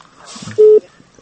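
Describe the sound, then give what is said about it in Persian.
A single short, steady telephone line tone sounds loudly for a moment after a listener's call to Azadi Radio drops, with only faint background noise before and after it. “نه دیدی تلفن قطع شده.”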